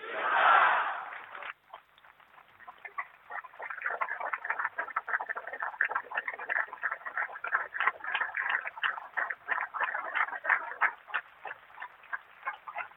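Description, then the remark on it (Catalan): A loud burst of cheering and shouting from a crowd, quickly giving way to sustained applause with dense, crackling clapping that continues steadily to the end. “No és a mi a qui heu d'aplaudir, ens hem d'aplaudir tots, perquè hem d'estar aquí, encara que plogui.”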